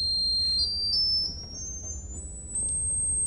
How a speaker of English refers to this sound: Here's the 2-foot Blockflöte, which speaks 2 octaves above ordinary pitch. Now, of course, as you go higher, the pipes get much smaller. These pipes are, you know, a little bigger than a pencil. They're quite small. You'll hear how high it is.